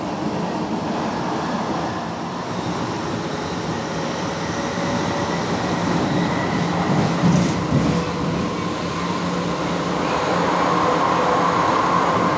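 tram passing

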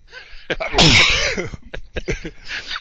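sneeze

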